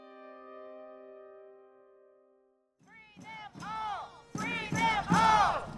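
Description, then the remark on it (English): A protest crowd at the DeKalb County Jail chants against the arrest of three administrators of the Atlanta Solidarity Fund, in loud, rhythmic bursts of many voices, each phrase rising and falling in pitch and building in volume, after a held musical tone fades out. “At the DeKalb County Jail yesterday, a crowd gathered to protest the arrest of three administrators of the Atlanta Solidarity Fund.”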